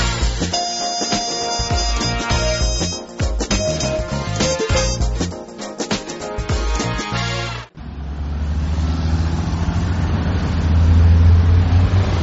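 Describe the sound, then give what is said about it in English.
A stretch of busy music cuts off abruptly, replaced by the deep, steady rumble of a bus engine that swells louder near the end as the vehicle pulls away. “There is the bus. We aren't going to make it.”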